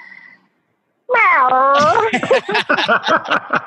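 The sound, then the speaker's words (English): After a brief pause, a person lets out a loud, drawn-out roar imitating a big cat, its pitch dipping and holding, then breaking into a rapid, rhythmic growling rumble until the end. “And what would be the noise or sound you would make as a cat?”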